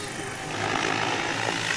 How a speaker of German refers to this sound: Man hört natürlich sehr deutlich bei diesem Modell das Rotorgeräusch, das den Motor bei weitem übertönt.